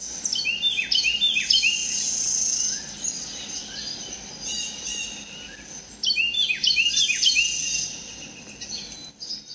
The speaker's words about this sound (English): I was drinking coffee early on Christmas morning and heard this lovely bird song in my backyard. It's a Carolina wren, and it's not real common in Iowa, so I felt really lucky to hear it.